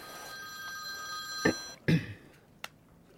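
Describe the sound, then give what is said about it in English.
A telephone rings with a steady, bright electronic tone, then cuts off amid a couple of clunky handling knocks and a sharp click, as if the receiver is picked up. No one speaks. “Yes, thanks for ringing back”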